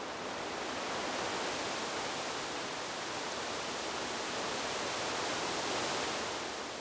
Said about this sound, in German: Kommen wir zurück zu unserer Eiche. Schließe gern noch ein letztes Mal die Augen und höre das Rauschen der Blätter, bevor wir unseren Rundgang fortsetzen.